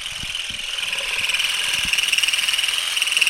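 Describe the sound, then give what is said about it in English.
A vibrating olive harvesting rake, combed through the branches of an olive tree, gives off a steady, high-pitched motorized buzz with a fast pulsing flutter, joined by scattered low thumps and rustles as olives fly off in all directions. “You just kind of combed the vibrating rake through the branches and the olives started whizzing off in all directions.”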